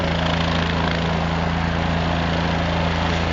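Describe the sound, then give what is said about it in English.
A helicopter leaves center field of a baseball field before a game, its engine droning loudly and steadily, a continuous throbbing mechanical roar with a low hum that holds constant throughout, with no one speaking. “And now the chopper will remove itself from center field.”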